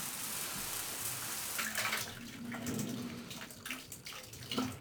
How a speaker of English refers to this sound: Well, I was up in my room, taking a shower before dinner.